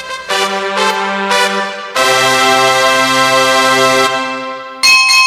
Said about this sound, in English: Well, boys and girls, you all know what that bell means. It means we're just about out of time.